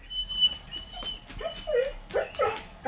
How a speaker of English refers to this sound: Now, if the human was its owner or its master, the barks would change to tail wags and whines as the owner comes up.